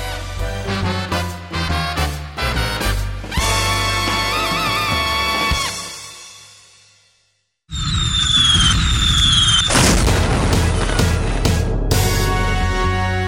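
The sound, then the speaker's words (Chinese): Fireworks set off in the night sky burst over a musical backing, with sharp repeated bangs at first, then a loud, dense stretch of crackling explosions and rising whistles after a brief silence. “黑夜中放烟火，砰砰砰砰砰，漂亮的花朵，闪亮亮的有绿叶有红袖蓬。”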